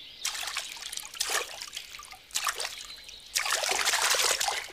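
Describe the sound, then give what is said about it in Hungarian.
Water is poured in several short splashy bursts, then one longer steady pour at the end, fairly loud, with no voices, as water is carried to put out a fire. “Teknőszám viszem a vizet az oltáshoz.”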